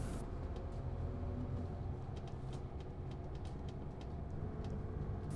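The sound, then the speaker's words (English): Steady low rumble of a city bus in motion in Finland, heard from inside, with faint rattles and clicks over the engine drone throughout. No one speaks. “Leaving the bus and standing in the snow, that's quite the same like in Austria.”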